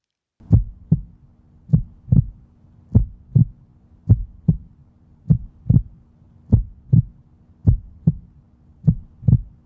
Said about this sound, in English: This is a heartbeat. It's slow.